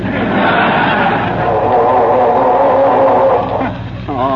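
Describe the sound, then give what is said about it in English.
The engine of a car that won't start cranks loudly and continuously with a grinding, sputtering rhythm that never catches, running for about four seconds before briefly dipping and starting up again. “I'm trying to get this dad-ratted car started, if you must know.”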